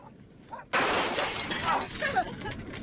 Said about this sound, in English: I'm going to smash the glass panel.